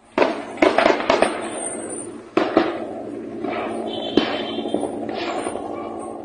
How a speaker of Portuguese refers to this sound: moradores também relataram ouvir tiros